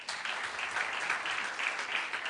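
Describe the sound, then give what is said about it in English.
An audience at Michael Feldman's public radio show claps steadily throughout, a dense, even patter of many hands at a fairly constant moderate loudness, with no voices rising above it. “All right, applaud if you have no idea what the reference to Candy Crush was all about.”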